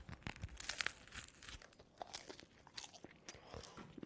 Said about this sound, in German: Warte mal, ich muss jetzt erstmal vom Brötchen abbeißen.